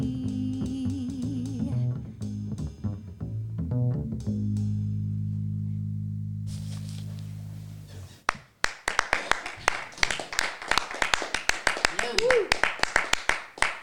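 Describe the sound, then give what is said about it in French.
A sung tune with sustained chords rings out and stops, followed by a few people clapping: sparse, uneven claps from an audience of only three or four people in the hall, fairly loud, lasting several seconds. “Alors le nombre public applaudit, on est trois dans la salle, ou quatre on va dire.”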